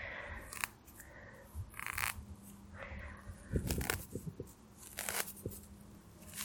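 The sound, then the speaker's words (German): Dry grass stalks, their seeds shaped like husks, plucked by hand outdoors, a series of short dry snapping and tearing sounds at an irregular pace, some sharper crunches among softer rustles, with no voices. “Das habe ich schon als Kind immer gerne abgerupft.”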